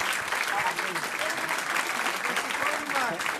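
Steady audience applause fills the whole stretch, a dense, sustained patter of many hands clapping at fairly close range with no pauses.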